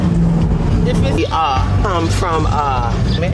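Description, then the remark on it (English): A car engine rumbles loudly and steadily, a speeding car carrying gangsters with AR-15s roaring by, while voices talk over the noise. “And mid-conversation, some speeding gangsters with AR-15s zoom past us.”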